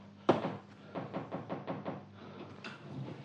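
A door opens with a sharp latch clunk, followed by a run of evenly spaced soft thuds and a faint creak near the end, with no voices.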